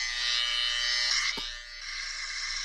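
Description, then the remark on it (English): A phone app imitating an electric shaver hums with a steady, bright, high buzz that runs unbroken for a few seconds, with a brief knock partway through and a slight drop in level afterward. “It is a shaver, as you can tell.”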